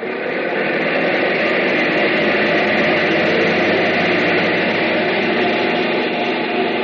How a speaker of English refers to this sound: That's why we have these captive engines. Engines that don't ever get a chance to fly. No glorious destiny for these babies. They just run their hearts out on a test block. Bring number one engine up to maximum RPM.